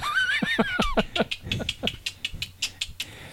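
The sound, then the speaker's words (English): A large puppy named Bo, being dog-sat for the week, barks in a rapid series of sharp yips, opening with a few high whining yelps before settling into steady repeated barks, with no talking. “I'm actually a dog sitting and cat sitting for the week.”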